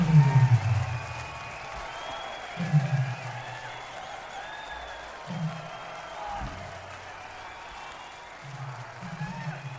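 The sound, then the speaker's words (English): A dense crowd roar runs throughout, with repeated low, drawn-out shouts rising out of it every couple of seconds and a scattered wash of cheering and clapping underneath. “What is that shouting for?”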